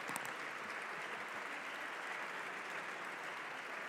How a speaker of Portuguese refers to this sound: E as palmas são extensivas à sua deputada Joana Cordeiro, que eu não tinha aqui a indicação que também era o seu aniversário.